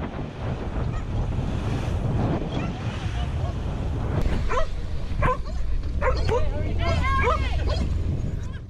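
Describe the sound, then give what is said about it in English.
Dogs bark and yelp excitedly in quick, high-pitched bursts that grow busier in the second half, over a steady roar of wind and surf, with voices mixed in, as they and two women are rescued from their boat by sailors of the US Navy vessel USS Ashland after five months. “Yeah, the dogs were very excited to see them.”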